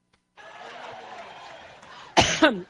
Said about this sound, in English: a massive coughing fit as she began a Labor Day campaign rally in Cleveland, Ohio. She had trouble speaking and thanking local elected officials and had to stop a number of times to cough and clear her throat.